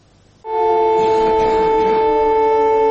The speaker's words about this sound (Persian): صدای آژیر خطر در استپاناکرت یا خانکندی، مرکز منطقه مورد مناقشه ناگورنو-قره‌باغ، تنها ساعاتی پس از برقراری آتش‌بس میان ارمنستان و جمهوری آذربایجان، ساکنان این ناحیه مجبور شدند یک روز دیگر را هم اینگونه در پناهگاه بگذرانند.